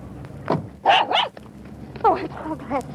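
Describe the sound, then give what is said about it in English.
A dog barks and yips excitedly in a quick run of short bursts, pausing briefly before a second flurry, with what may be voices mixed in, as it greets a returning man it had not seen since it was a pup, in front of a modest green shingled ranch-type house. “stopped in front of a modest green shingled ranch-type house, and the returning hero was greeted by a dog he hadn't seen since he was a pup, a wife he hadn't seen since she left Japan 6 months ago, and a baby he had never seen.”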